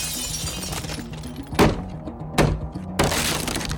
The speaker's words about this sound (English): In a coordinated movement, one officer in the garden threw a brick through the bedroom window while a colleague forced their way through the locked door.